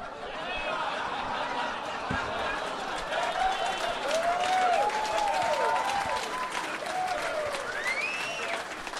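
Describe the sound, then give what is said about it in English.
A crowd claps steadily throughout after a joke about John Wick fighting cancer, a dense, sustained wash of applause with cheers and whoops rising over it and some scattered laughter. “I've never heard that many people applaud cancer before.”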